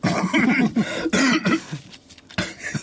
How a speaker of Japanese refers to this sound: なんか咳込んでるね。